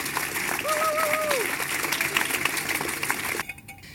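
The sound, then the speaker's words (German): A poetry slam audience applauds a two-person poetry slam team called Schluss jetzt to the microphone, with dense, steady clapping for about three and a half seconds, a brief high whistle or cheer rising above it, before the clapping cuts off abruptly. “gemeinsam heißen sie Schluss jetzt, Lisbeth, klatscht sie ans Mikrofon.”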